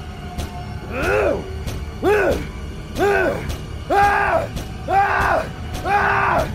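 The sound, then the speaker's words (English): A drunken man locked inside wails in six long, rising-and-falling cries, roughly one each second, while sharp thuds repeatedly land between them as he throws himself against the front door. “As I held my body against the front door from the outside, I heard him charge into the door over and over, wailing.”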